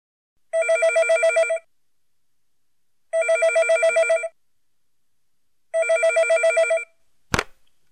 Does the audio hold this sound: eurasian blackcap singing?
no